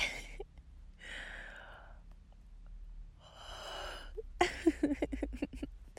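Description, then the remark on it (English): A breathy yawn: two long drawn-out airy exhalations with a slight vocal tone, followed by a moment of someone starting to talk. “I'm so yawny today. I know that's not a real word. I'm yawning a lot.”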